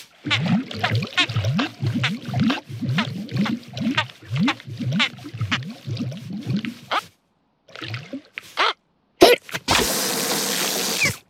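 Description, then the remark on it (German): An elephant with hiccups gulps down lots of water to get rid of them, in a long, rapid run of wet, rhythmic swallows, followed after a pause by a sudden sharp hiccup and a rushing burst of noise. “Ah, du meinst, wenn man ganz viel Wasser trinkt, geht der Schluckauf weg?”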